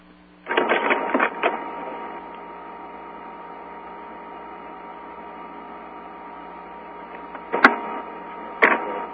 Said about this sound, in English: Can we get the person with the typewriter or whatever that's going? No. It sounds like an IBM selector. Or maybe it's a scanning machine.